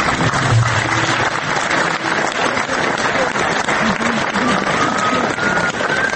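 Sustained applause from a large audience filling the hall of Dom omladine in Belgrade at the end of the Belgrade premiere screening of the film Drugi susret, dense and steady throughout, with many hands clapping at once and a faint murmur of voices beneath.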